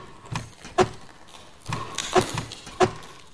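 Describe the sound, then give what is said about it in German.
Someone works at an apartment door, trying to open it, with scraping and rattling between three sharp metallic clunks, as if a handle or lock is being forced. No one speaks. “Mal schauen, ob ich die Tür aufkriege.”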